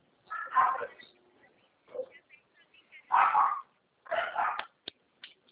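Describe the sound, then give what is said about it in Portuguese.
A dog barks several times in irregular bursts, the barks moderately loud, with a few faint clicks and yips in the short gaps between them. “Vai lá ver o cachorro pra mãe?”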